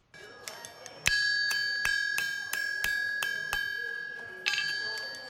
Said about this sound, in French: Les coups de marteau résonnent sur le fer encore chaud que bat le forgeron. Dans cet atelier, on fabrique des chaises, des tables ou encore des lits.